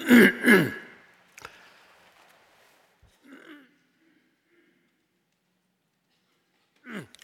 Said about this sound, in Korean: 몇 사람이 좋나 보다. 제가 자꾸 기침이 나오는 거 보니까.